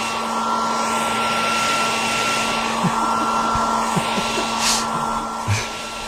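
A hair dryer blows with a steady, loud whooshing roar and a constant motor hum, running continuously with a few faint knocks and bumps in the background.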